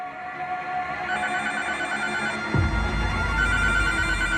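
A telephone rings at night, one of repeated calls, with a steady, bright electronic tone that holds throughout; about halfway through, a deep low rumble joins underneath and continues to the end. No one speaks.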